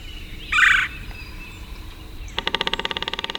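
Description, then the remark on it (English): A red-bellied woodpecker on a bayou gives a single rolling churr, then after a short pause drums a fast, steady burst of hollow taps on an ancient snag, clear. “A red-bellied woodpecker calls and then drums on an ancient snag.”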